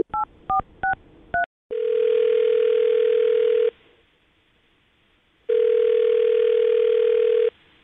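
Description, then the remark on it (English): Four quick touch-tone beeps dial a number, followed by two long, steady ringback tones separated by a pause of near silence. Clear and with no voices. “we'll get him on the phone right now with Dallas' phone number”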